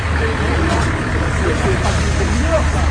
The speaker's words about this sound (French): Oh, voilà de la bus.